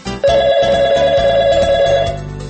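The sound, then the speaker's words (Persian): A telephone rings again with a steady, bright electronic tone held for about two seconds, loud, with no voices present. “آه، ای بابا، باز دوباره این زنگ زد. ببین این تلفن رو بگیر، بگو بابام خونه نیست.”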